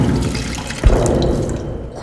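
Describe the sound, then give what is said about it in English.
The ship HMS Galileo crashes into a lake of digestive acid inside the belly of a giant creature, the Leviathan: a deep, heavy thud hits about midway through a steady wash of churning, dripping liquid that keeps bubbling and sloshing afterward. No one speaks. “Sailing between teeth the size of skyscrapers, the ship freefalls into the belly of the beast before crashing into a lake of digestive acid.”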